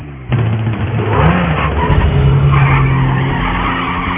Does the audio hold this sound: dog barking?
no